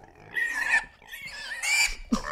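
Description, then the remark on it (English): A person imitates a pot-bellied pig, making three or four nasal, squealing grunts in quick succession, fairly loud, with no other sounds around them. “That's what the sound they make.”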